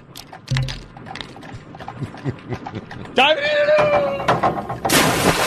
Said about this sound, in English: The sound of vape pens.